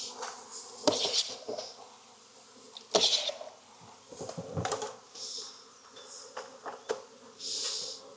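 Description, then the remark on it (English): A dense, steady hum of many honeybees buzzing together, broken by sharp rattling jolts and thumps as bees taken from a hive frame are shaken into a container, about one cup of bees. No one speaks. “So if you got enough bees, 1.5 cups is good.”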